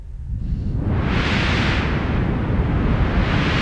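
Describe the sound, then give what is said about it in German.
Steady synthesized noise whose filter is slowly opened and closed with a slider, with the delay effect off, the hiss rising into a bright crest and then falling back, imitating the surge of an ocean wave over a constant low rumble. “Und wenn man jetzt sozusagen mit einem Schieberegler diesen Filter, der immer so auf und zu geht und die Frequenzen so ein bisschen abspeckt, da kann man sozusagen fast wie so ein Wellenrauschen erzeugen.”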